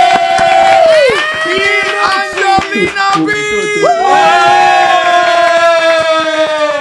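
A loud audience cheers and whoops continuously, high shrieking voices rising and falling over scattered clapping, with no break for about seven seconds.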